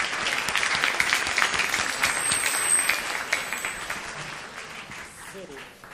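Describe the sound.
An audience applauds steadily for about six seconds as someone comes up, a dense, crackling wash of many hands clapping that fades slightly toward the end, with faint voices beneath it.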